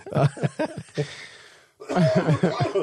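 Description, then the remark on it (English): A burst of several short, rough coughs in quick succession, a brief pause, then another run of throaty coughing with a faintly laugh-like quality. “So, yeah, you coughed out too. Now you got me going.”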